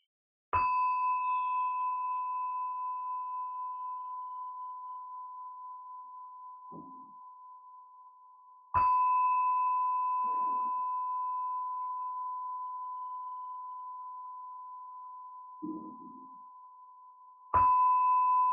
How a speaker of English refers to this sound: I'm gonna begin just by ringing the bell. So just to call us in, call us home.